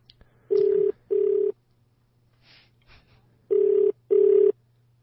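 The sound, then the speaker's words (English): A phone line ringing out on an outgoing call: two double-burst ringback tones, each pair of short steady buzzes separated by a pause, heard clearly over a faint background hum with no talking. “Is it ringing?”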